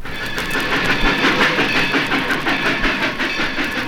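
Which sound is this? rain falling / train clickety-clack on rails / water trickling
train clickety-clack on rails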